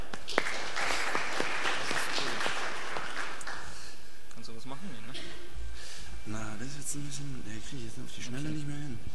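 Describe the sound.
An audience claps steadily for a few seconds to welcome the speakers of the next talk, from the firm B1 Systems, presenting Red Hat Enterprise Virtualization. The applause is dense at first and then tapers off as a man begins speaking over the fading claps.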